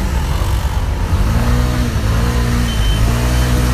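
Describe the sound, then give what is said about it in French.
Small engines rev and whine, pitch rising and falling as several scooters throttle up and turn around on the blocked rue de Belleville in Paris, where firefighters and police have closed the street, over a steady rumble of street traffic. “Tout est bloqué. Les scooters font demi-tour.”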